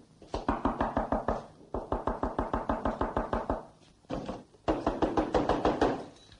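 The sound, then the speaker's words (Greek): Rapid, rhythmic knocking on a door in several bursts of about a dozen sharp raps each, loud and insistent, with brief pauses between volleys and no talking. “Άι στο καλό, άι στην ευχή της Παναγίας και μη μου ξαναχτυπήσεις”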